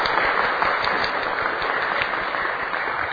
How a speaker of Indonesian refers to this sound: Oke, sebelum mulai kita beri tepuk tangan untuk apa?